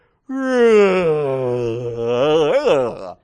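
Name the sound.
loud exaggerated yawn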